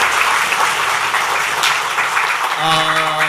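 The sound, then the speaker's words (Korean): A church audience claps steadily in a sustained, dense wash of loud applause, blessing someone to live long in peace, with a tonal musical note or hum rising underneath near the end. “오래오래 평강 누리며 사시라고 큰 박수로 축복하겠습니다.”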